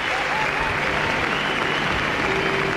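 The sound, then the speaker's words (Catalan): A large standing audience applauds steadily after a concert broadcast on Catalunya Ràdio, dense continuous clapping mixed with scattered cheers and shouts of thanks, loud and sustained throughout. “No només l'aplaudeixen, sinó que fins i tot podeu escoltar els crits que emet aquest mateix públic agraint la seva actuació.”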